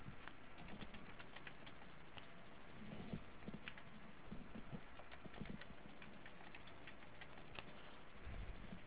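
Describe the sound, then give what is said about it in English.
Quiet, uneven tapping of fingers on a computer keyboard as a web link is typed in directly, keys clicking in short irregular bursts with no voices. “So instead of clicking on this link, I'm going to type it in directly.”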